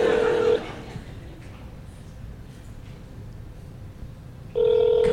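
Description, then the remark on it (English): A phone's ringing tone comes through a speakerphone during a call to a number in Canada, with two steady buzzing rings at the start and end separated by several seconds of faint hiss. “Why isn't it ringing?”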